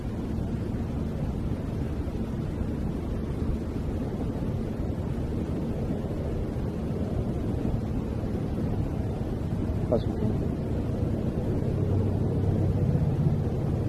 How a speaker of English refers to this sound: That train sounds like it's overhead, which it's not. It's beyond the back fence of this house, but it definitely sounds close.